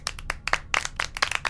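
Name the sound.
group clapping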